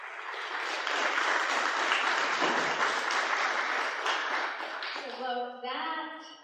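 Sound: audience applause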